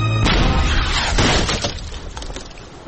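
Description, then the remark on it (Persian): A cannonball fired by Sinbad slams into the ship Santiago with a sudden loud crash, followed by nearly three seconds of splintering, shattering debris that slowly thins out. No voices are heard. “سنباد گلوله خود افر کرد و در کشتی سنتیاگو خورد.”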